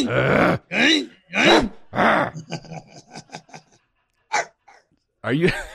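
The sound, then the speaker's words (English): A person imitates dog barks of different breeds, such as a Shih Tzu and a German Shepherd: four loud, drawn-out woofs followed by a quick run of short yapping barks, a few scattered yips, and one final bark. “You just keep send him different dog barks, you know?”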